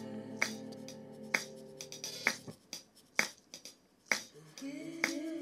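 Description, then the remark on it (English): Sharp, bright recorded claps land at a steady, even pulse, about one per second, with crisp recorded hi-hat and shaker ticks between them, all over a sustained tonal backing; percussion added to make a dance track. “So right here I recorded hi-hat, the claps, some shaker.”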